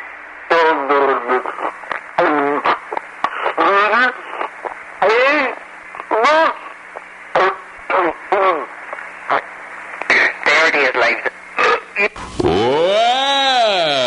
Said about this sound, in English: I am going to sip my Pepsi Cola while humming the national anthem at once.